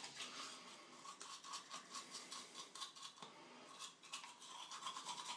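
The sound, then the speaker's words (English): A manual toothbrush scrubbing teeth, a steady run of wet, bristly back-and-forth strokes with an uneven rhythm and no talking. “Now, the next thing you'll hear will be the sound of teeth being washed.”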